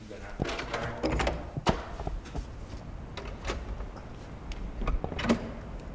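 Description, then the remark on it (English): A door at GM's Heritage Center opens with a mechanical whir and a few sharp clicks and knocks as people walk through, while faint voices murmur in the background. “We're looking for reaction once you go through the door.”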